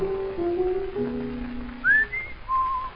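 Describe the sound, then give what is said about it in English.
A person whistles a short, bright birdlike tune imitating a meadowlark, with sustained notes followed by quick rising and falling chirps, clear with no talking. “I can see this every evening in the park, whistled in when it's dark. Like a meadowlark.”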